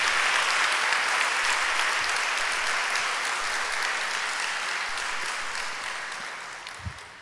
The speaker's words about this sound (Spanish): Dale un aplauso al Rey. Un aplauso al Rey.